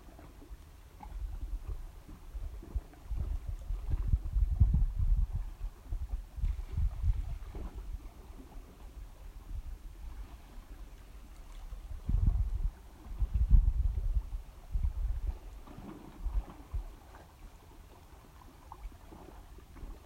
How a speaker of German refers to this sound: Hier im Hintergrund hörst du das Meer rauschen.